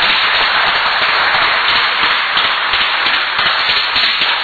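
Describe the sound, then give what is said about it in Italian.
Steady audience applause from many hands at a city ceremony honouring assistants for courage, as one receives an award; a dense crackling patter of claps that stays loud and even throughout, with no voices over it. “che ritira anche un applauso.”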